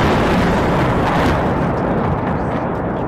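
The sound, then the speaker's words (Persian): A Russian suicide drone, said by Western sources to be an Iranian-made Shahed 136, hits a residential building in Kyiv, Ukraine: a loud, booming blast swells into a dense, rumbling roar that holds steady for about three seconds, with no voices. “صدای برخورد یک پهپاد انتحاری روسیه به یک ساختمان مسکونی در پایتخت اوکراین.”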